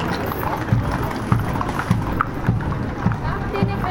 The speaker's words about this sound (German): Jetzt setzen sich die Reiter in Bewegung. Ein Ferienhof hat hier lauter Pferdchen mit dabei.